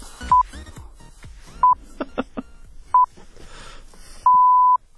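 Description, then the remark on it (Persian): Three short, steady electronic beeps at one mid-high pitch, spaced about a second and a half apart, then a fourth, longer tone held for about half a second, the final beep signalling the start of the news reading, over faint background chatter and clatter. “برو بوق آخر بزن بگو بچه بیان خبر بخونن.”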